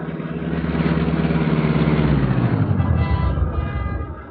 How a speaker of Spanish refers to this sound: frena súbito y aproxima el carro a la acera.